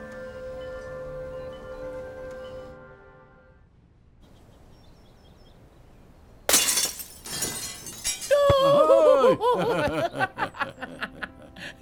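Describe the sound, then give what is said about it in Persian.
A sudden loud crash as someone breaks glass, followed by scattered tinkling shards, then bursts of laughter and voices; a soft tonal hum fills the quiet lead-in. “شیشه رو شکستی، باید چوب سبکتری برداری.”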